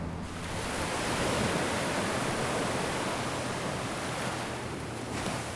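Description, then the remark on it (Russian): Small sea waves wash onto the shore in a steady, hissing roar that swells only slightly and never breaks into distinct crashes. No voices are heard. “Чем ближе к морю, тем лучше слышно волны, хотя сегодня они небольшие.”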